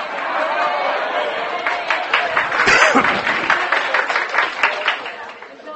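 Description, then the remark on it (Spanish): An audience applauds for several seconds, a dense spatter of many hands clapping at once, moderately loud and steady, with a murmur of crowd voices mixed underneath. “Fíjense que aplaudieron y no dije auditorio de sillas reclinables.”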